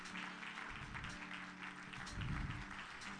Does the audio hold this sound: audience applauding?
yes